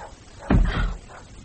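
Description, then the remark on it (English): A door opens noisily: a sudden heavy thud followed by a short, rough rattling scrape that fades within half a second, with no voices present. “Now, open the door softly.”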